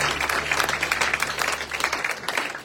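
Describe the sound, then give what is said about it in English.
A crowd applauds eight men steadily, dense overlapping hand claps forming a bright, continuous patter that holds at an even loudness throughout, with a low hum underneath that drops out near the end. “Can we give those 8 guys a round of applause?”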